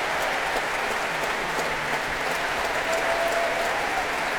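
Sustained applause from a large concert audience for the orchestra's horns, trumpets and whole brass section, standing, and for the winds, a dense steady wash of clapping at a fairly constant level throughout, with no voices standing out.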